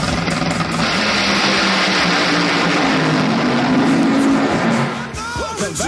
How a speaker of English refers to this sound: Hey, you know, we just heard that dragster that... There's nothing funny about that. You know, running 330 miles an hour down the track.